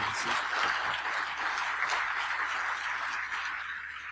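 An audience applauds steadily, a dense wash of many hands clapping at once with no voices, holding at an even loudness for about four seconds before easing off slightly at the end.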